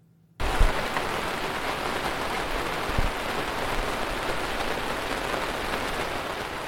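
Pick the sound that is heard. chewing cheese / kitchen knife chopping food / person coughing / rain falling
rain falling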